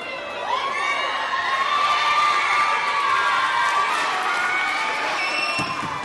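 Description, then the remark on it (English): A large crowd of families erupts in loud, sustained cheering and high-pitched shouts and whoops as they open envelopes holding Christmas gift cards and wave them in the air, a steady roar of many voices that holds for several seconds without pause. “While many wave their envelopes high in the air and cheer, others hold them close and weep.”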